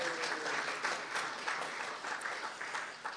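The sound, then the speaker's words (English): A crowd applauds steadily for a few seconds in thanks to an organization's board and committees, a dense, even wash of many hands clapping at moderate loudness with no voices standing out. “Let's hear it for our committees.”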